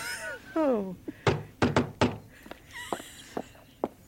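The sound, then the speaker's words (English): Four sharp knocks on a door by a postman in a quick uneven burst, preceded by a short wavering vocal sound and followed by a few fainter taps and shuffles. “Someone at the door.”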